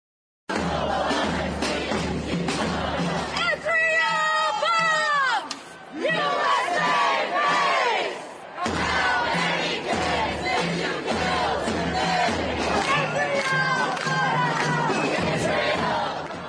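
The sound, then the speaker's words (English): A large protest crowd in New York shouts and chants slogans together, such as "Israel bombs, USA pays", loud, with raised voices overlapping in a continuous roar and a few sharper, higher yells rising above the mass. “And they were also screaming death to America in different cities.”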